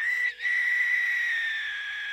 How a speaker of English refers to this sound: A bird call, eerily reminiscent of a human being in pain, rang out in the distance.